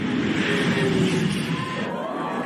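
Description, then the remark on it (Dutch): A large crowd of spectators at Goodwood roars and cheers continuously at the run of the McMurtry Spéirling, a fully electric race car, a dense wall of noise, with a thin high-pitched mechanical whine rising in the last second. “Het publiek vindt het fantastisch.”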